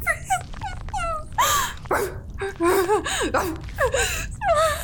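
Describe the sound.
A human voice imitates a dog, letting out a rapid string of high yips, short barks and whiny whimpers, fairly loud, with sharp breaths between them.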